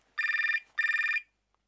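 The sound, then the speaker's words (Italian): A telephone rings twice in quick succession, each burst a rapid trilling warble of bright harmonic tones, clear, followed by a moment of silence. “Ti chiamo con il cellulare di Laura.”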